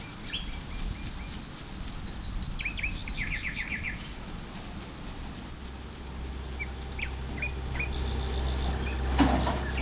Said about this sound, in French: Dans la forêt du paresseux, les oiseaux piaillent.